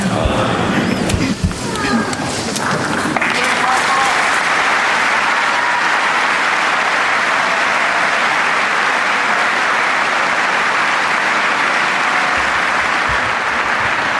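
Loud, sustained applause from a large crowd of pilgrims greeting the head of the Church in the Paul VI Hall at the general audience, dense and steady throughout, with some cheering voices mixed in near the start.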